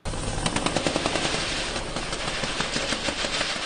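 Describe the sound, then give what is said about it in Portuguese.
Sustained gunfire during a shootout in a police operation against militias and drug traffickers in Rio de Janeiro, recorded by Fluminense and Vasco players at training: rapid, repeated bursts of shots crackling in an almost continuous rhythm, loud and dense throughout, with no voices heard. “Os confrontos afetaram até mesmo os treinos de jogadores do Fluminense e do Vasco, que registraram os tiroteios.”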